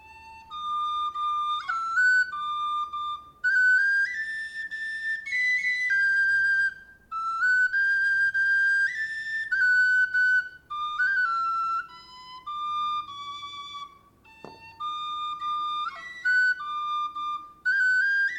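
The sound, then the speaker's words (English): A brass Irish whistle plays a lilting melody with clear bright tones, quick ornamented notes and a few short breaths between phrases, no talking. “It's a brass whistle.”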